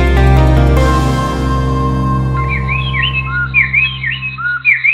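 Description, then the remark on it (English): A male and a female stripe-breasted wren sing a duet of clear, whistled phrases, quick rising and falling notes trading back and forth, entering after a low, sustained musical drone that holds underneath. “This might sound like just one bird singing, but it's actually two birds, a male and a female striped-breasted wren singing a duet.”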